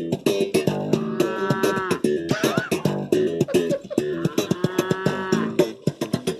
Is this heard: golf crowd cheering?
no